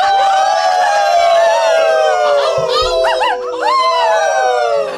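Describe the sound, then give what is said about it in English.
A person imitates a howl in a long, operatic voice, holding sustained pitches that slowly glide downward, with wavering, warbling notes rising over it midway. Loud throughout, with no talking. “It was a very operatic howl.”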